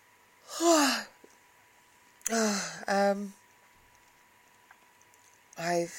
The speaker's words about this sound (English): I can't stop bloody yawning.